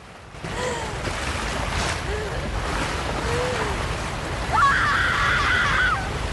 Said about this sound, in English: Water and debris wash past.